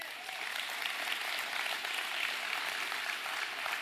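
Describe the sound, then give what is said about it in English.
A church audience claps steadily, a dense, even wash of hand claps that holds at a constant moderate level for a few seconds with no voices standing out. “Give him another hand.”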